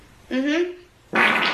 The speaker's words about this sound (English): Here's this girl farting, all right?